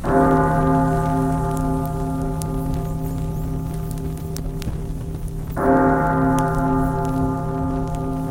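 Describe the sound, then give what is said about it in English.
A deep clock bell strikes two o'clock, each loud chime ringing out with rich overtones and a long, slowly fading hum before the second stroke sounds over a steady rain-like hiss. “The clock struck two.”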